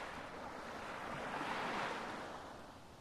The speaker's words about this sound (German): Du lauscht dem sanften Rauschen der Wellen und blickst auf einen weiten Horizont.